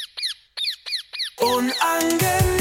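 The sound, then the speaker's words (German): Several sharp, repeated squawking bird calls in quick succession, loud, as part of a segment jingle, then giving way to a dense burst of bright music. “Unangenehme Vögel, ich halt's nicht aus. Schickt sie weg aus meinem Haus.”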